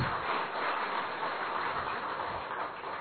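An audience claps steadily for about three seconds for a respected female speaker, addressed as Didi ji, after her talk: a dense, even wash of many hands with no talking over it, holding the same level throughout.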